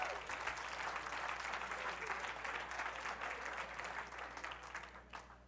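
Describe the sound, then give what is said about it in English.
A church audience applauds steadily at a preacher's call, a dense wash of many hands clapping at once that holds strong throughout, thinning slightly near the end, with a low hum underneath. “Come on, clap your hands if you understand that.”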